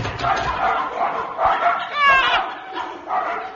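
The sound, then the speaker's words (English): A pack of 40 long-haired sheepdogs barks all at once, a dense, overlapping chorus of loud yaps and woofs that keeps going in rough surges, with a few higher yips standing out. “40 long-haired sheepdogs.”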